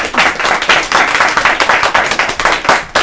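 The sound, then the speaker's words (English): A crowd applauds a guest being introduced, many hands clapping in a dense, continuous patter that stays fairly loud throughout, with no voices heard over it. “I was waiting for the applause to end.”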